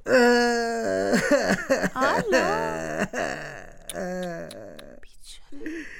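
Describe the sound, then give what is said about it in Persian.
A performer voices a crying boot, the guest character on a children's show: exaggerated, wavering sobs and wails, rising and falling in pitch with breathy gasps between them, loud, trailing into a few shorter whimpers near the end. “بوت عزیز گریه نکن دیگه، خودت اینجا آمده که گپایت بزنی، نکی گریه کنی.”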